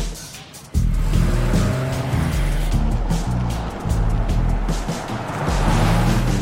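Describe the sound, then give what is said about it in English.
A car engine roars to life after a brief lull, then revs and accelerates steadily with shifting gears and a hint of tire noise as a woman drives the car off, loud throughout. “The feds spot the car and follow it.”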